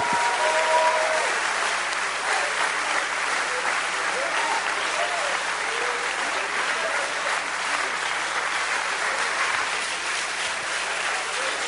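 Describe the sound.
An audience at a Sunday morning service breaks into about 30 seconds of enthusiastic hand-clapping applause, a dense steady wash of many claps that holds at a loud, even level throughout, with faint voices mixed in.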